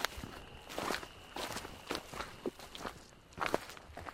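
Footsteps of two people walk steadily along a trail in the darkness, heading back to the trailhead: around six or seven crunching steps at an even pace, fairly quiet with a faint steady hiss in the background and no voices.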